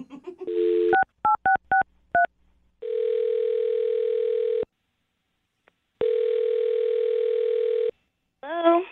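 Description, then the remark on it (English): A rapid string of about five touch-tone dialing beeps as a woman's phone number is dialed on the radio show Brooke and Jubal in the Morning, followed by two long, steady ringback tones separated by a short silence, with a voice starting right at the end. “I'm gonna dial her phone number right now, man.”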